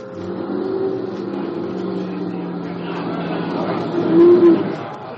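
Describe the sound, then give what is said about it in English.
A heavy, double-loaded truck's engine rumbles steadily at a raft building site on the bottomlands by the Han River, then revs harder and swells louder for a moment near the end before easing back. “All right, Corporal, 6 men over and give a hand in this truck.”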